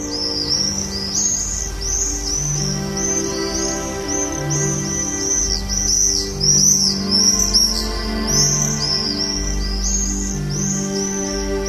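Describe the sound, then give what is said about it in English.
Common swifts scream in shrill, repeated bursts high overhead, a continuous chorus of calls over a soft, sustained low musical drone, with no talking. “Don't forget that we all have our part to play in this, and we have to do it if we want to keep hearing that wonderful summer sound of the swift.”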